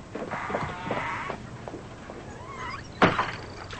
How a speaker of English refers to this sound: walks away and the screen door shuts behind her.